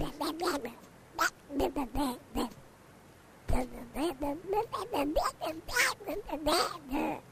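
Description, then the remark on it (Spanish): A person imitating a duck character, el Pato of the Pato Solidario raffle, quacks out a phone number in a rapid, garbled string of syllables in two loud bursts separated by a brief pause, like nasal, unintelligible speech. “No sé si el Pato puede darle el número al que tiene que llamar.”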